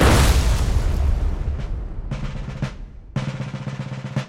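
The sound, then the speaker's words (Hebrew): A loud Scud missile explosion bursts out and rumbles away over a couple of seconds, followed by short stretches of sustained musical tones. “זה שיר טיל! נפץ! סקאד!”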